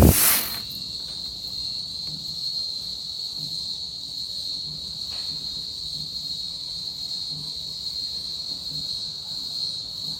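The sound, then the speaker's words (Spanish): Cicadas drone as October approaches, in a steady, shrill, unbroken buzz that holds its pitch for the whole stretch, with faint low thumps pulsing softly underneath and no voices. “Pero cuando uno ve los diablitos en la calle, cuando uno escucha esas chicharras, otra vez las van a escuchar.”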